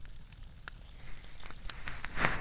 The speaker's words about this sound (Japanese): 特に寒い中でこのパチパチパチという音を聞くと、なぜだか安心感のようなものや、温まれるということを思うと、 ますます癒されるような気がするんです。